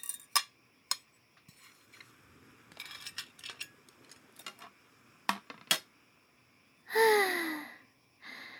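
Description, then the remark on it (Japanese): Plates and cutlery clink sharply several times as plates are collected after a meal, scattered irregularly with soft rattling in between, followed by a breathy sigh near the end. No one speaks. “あ、食べ終わった？はい、じゃあお皿ちょうだい。”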